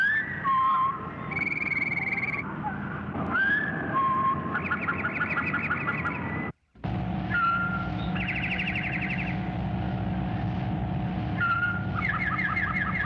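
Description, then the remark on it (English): A towhee sings repeatedly, each song a few clear whistled notes ending in a rapid trill that changes pitch and length from song to song, over a steady low background rumble. “Another day, he was found to be enlarging on the trill in the following alternate ways.”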